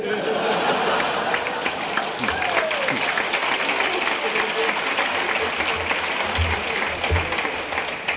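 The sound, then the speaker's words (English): A crowd claps steadily for several seconds, a dense, even wash of applause with scattered chuckles and murmurs mixed in. “Taking a drink to a person like me is not a thing to applaud at, folks.”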